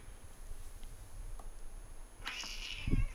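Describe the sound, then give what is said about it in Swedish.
A pet cat gives one short, high meow in the background near the end, rising out of a quiet, low background hum, followed by a soft thump. No one speaks. “Om ni undrar vad det är som jamar i bakgrunden så är det min katt.”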